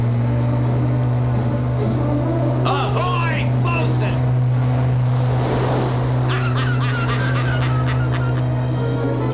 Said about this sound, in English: He almost did it. Another few feet and we'd be over. Likeable sort, isn't he? That his boat? Yellowtail. Fastest sports fisherman in the harbor. He owns it with Freddie Fuller.